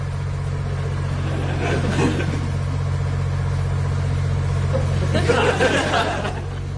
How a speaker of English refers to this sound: And what an engine it is this week. A legend in the automobile trade. It's a Jaguar twin cam fuel injection V12. Let's have a listen.